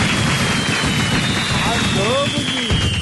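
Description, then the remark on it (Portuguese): Dense, steady crackle of clapping for the Flamengo club's 127th anniversary fills the whole few seconds at an even loudness, with faint voices and a thin whistle-like tone running beneath it. “Aplausos.”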